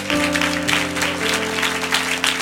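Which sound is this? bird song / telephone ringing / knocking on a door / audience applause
audience applause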